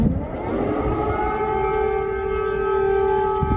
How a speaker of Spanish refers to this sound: Esa alarma antiaérea que se ha vuelto a escuchar en las últimas horas, la señal de alerta para que la población se refugie y se ponga a salvo de los bombardeos.